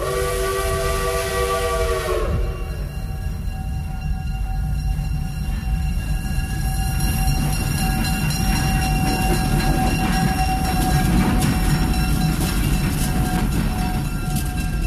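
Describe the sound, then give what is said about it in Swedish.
An American train's horn blares a chord for about two seconds, then the heavy, continuous rumble and clatter of the passing train fills the rest, loud throughout. “Nej, förresten, vi tar ett amerikanskt tåg istället.”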